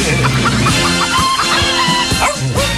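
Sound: chicken clucking sound effect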